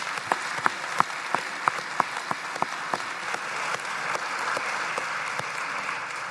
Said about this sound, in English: So thank you so much. How about a big applause for those who offer their services?